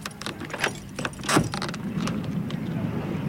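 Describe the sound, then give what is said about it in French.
Keys jingle and clink in a quick cluster of metallic clicks, then a heavier thunk as the door of a philosophy van is unlocked and pulled open, leaving a low outdoor rumble behind. “J'aimerais bien qu'on l'ouvre, ce camion philo.”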